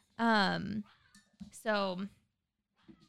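A cat attacking a dog: two loud, drawn-out cat meows about a second apart, with a few faint scuffling noises between and after them.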